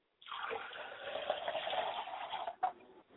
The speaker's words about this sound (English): I like to pour libations to my mother's spirit, and I say, Mother, come and sup with us and quench your thirst, libation, Mother.